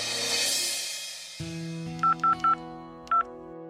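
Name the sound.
telephone keypad dialing tones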